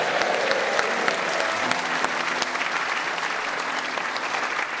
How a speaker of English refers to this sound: Ladies and gentlemen, big round of applause, please, for Alan Dedico. Thank you.